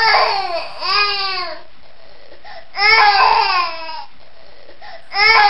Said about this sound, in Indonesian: Sambil mengamati mayat-mayat itu, dia melihat anak bayi menangis. Dengan ragu-ragu, dia menuju ke anak bayi itu. Tangis anak bayi itu semakin keras.